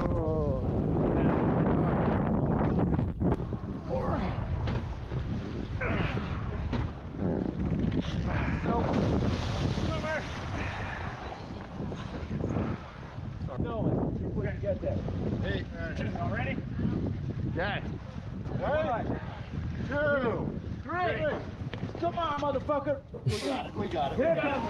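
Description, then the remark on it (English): A big, heavy gear boat raft carrying six to eight people is deliberately flipped mid-river, churning and capsizing in rough, rushing water, with continuous wind buffeting the microphone and indistinct shouting voices throughout. “Whoever shared this, like this, just showing that like they're not making it, but more these big heavy gearboats. This is like a 6, 7, 8 people flip.”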